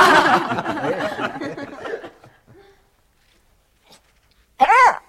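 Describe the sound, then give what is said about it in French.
A dog named Pistolet gives a single loud bark near the end, after a stretch of chuckling, laughter-like vocal sounds and a quiet pause. “Viens, t'es un bon chien-chien.”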